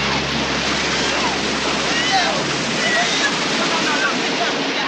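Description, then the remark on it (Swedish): A steady, dense, loud roar of ocean surf washing in without pause, with faint sloshing textures and no clear gaps between the breaking waves. “han själv vadar ut i vågorna och bär flera barn och kvinnor i land.”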